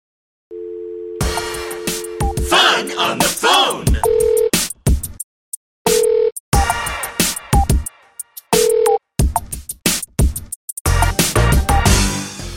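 A telephone rings at home at night in short, repeated electronic bursts spaced a couple of seconds apart, preceded by a longer steady tone, with busy clattering and noisy sounds filling the gaps.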